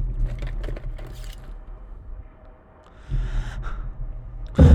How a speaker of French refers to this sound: Le seul son que j'entendais était celui de ma respiration apeurée, irrégulière.